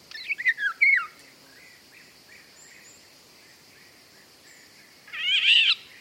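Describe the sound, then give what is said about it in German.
Eurasian golden oriole song: a quick run of loud, fluting whistles, then a quiet pause with faint background birds, and a harsh, squeaky, almost cat-like call near the end. “Wenn man da den Pirol gehört und auch das, den quietschenden Sound.”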